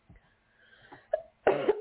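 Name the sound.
cough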